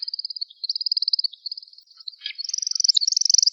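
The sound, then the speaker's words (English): A male woodcock's aerial display flight: a continuous, rapid high-pitched twittering of the spiraling climbing phase pulses steadily for several seconds, briefly dips, then rises a little higher and louder toward the end. No voices. “Followed by a combined audio-visual aerial display consisting of a spiraling, twittering climbing phase and a chirping, falling leaf-style descent.”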